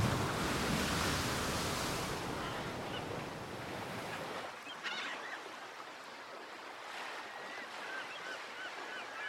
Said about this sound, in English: A gigantic wave crests before the HMS Twaddlecocks and proves too much for ship and crew alike. The boat capsizes, plunging everyone into Davy Jones's locker.